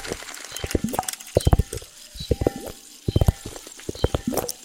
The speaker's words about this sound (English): Split flap displays.